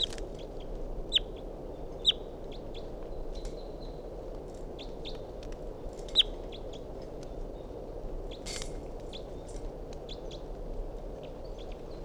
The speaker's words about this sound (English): So recording a wild bird.